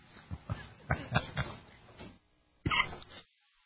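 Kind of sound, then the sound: human body sound, coughing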